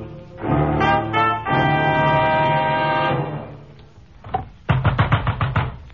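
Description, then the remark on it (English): A deep, sustained horn-like drone fills the first few seconds, then a rapid burst of heavy pounding knocks on a door, about eight loud blows in quick succession. “Let us in. Open this door.”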